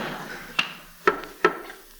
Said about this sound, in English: Well, just the same, the book said the arsenal floor. Sound will rise. It's just a matter of pounding until we hit the right spot that echoes. Now, listen.